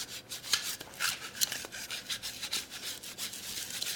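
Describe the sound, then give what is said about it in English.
A lint roller is rubbed back and forth over a school uniform to remove orange hair, in quick, repeated strokes, a soft papery rasp with a steady rhythm and no voices. “Lucky for you, I carry a lint roller in my handbag.”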